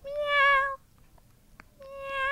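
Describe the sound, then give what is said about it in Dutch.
A kitten in a large pit in the Amsterdamse Bos meows twice, two drawn-out, high-pitched cries separated by a short pause with faint rustling, the first cry longer and the second starting near the end, clear. “Ik zeg, tante Rosa, de fietsles is vandaag, gaat geen doorgang vinden, want er zit een poesje in die kuil.”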